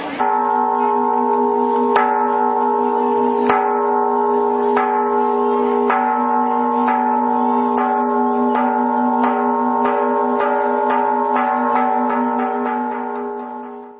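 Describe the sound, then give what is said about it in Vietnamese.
A Buddhist temple Prajna bell is struck in three rounds to prepare for the homage to the Three Jewels opening a ceremony, its rich ringing tone sustaining loudly as the strikes come gradually faster, then fading away at the end, with no voices. “Vào giờ này ban tổ chức đề nghị ban nghi lễ cử ba hồi chuông bát nhã để chuẩn bị lễ bái tam bảo khai mạc chương trình lễ quý nhật sáng hôm nay.”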